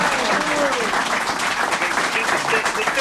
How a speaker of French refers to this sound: Le public est là aussi, qui t'applaudit.